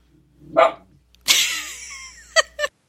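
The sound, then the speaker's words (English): A dog barks several times: a short yip, then a longer, drawn-out bark with a whining tail, followed by two quick sharp barks. No one speaks. “Your poor dog. He has not had a good day.”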